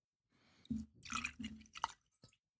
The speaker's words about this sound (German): So, hast du das Geräusch gehört? Ja. Aha. Ja, unsere Hörer wissen, was kommt. Es kommt Appleton Estate Aged 8 Years Jamaika Rum ins Glas.